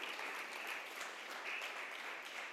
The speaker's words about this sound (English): Let's clap for Jesus. Amen.